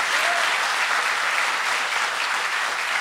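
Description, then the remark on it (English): A steady wash of audience applause, many hands clapping at once in a dense, even crackle that holds at a constant level for the whole stretch with no voices standing out. “Everybody, a round of applause for him and his devotion.”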